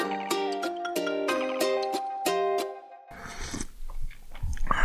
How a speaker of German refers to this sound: Also du hast gerade auch geschlürft, bloß leiser.